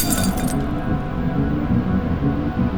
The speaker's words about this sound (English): And just when I thought I might pass out, and the edges of my vision went red, the TV screen cracked.